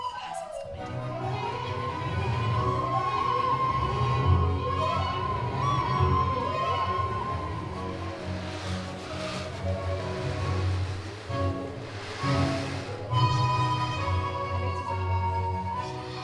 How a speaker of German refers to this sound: Und jetzt mal Vivaldis Sturmmusik zusammen mit Windflöten und Ozeantrommeln.